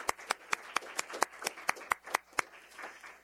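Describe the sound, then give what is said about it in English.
A brief round of applause thanking the organizers of a course: about a dozen sharp, evenly spaced claps in a quick steady rhythm, then a softer, scattered trailing off. No one speaks. “So, so let's do a little round of applause.”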